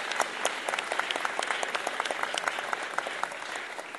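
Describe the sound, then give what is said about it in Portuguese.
A crowd applauds steadily for about four seconds in a special tribute to Sérgio Vaz, who is not present, many hands clapping in a dense, even patter without pause. “Porém, agora eu quero uma salva de palmas especial para ele, que não está presente em pessoa, mas com certeza espiritualmente, Sérgio Vaz.”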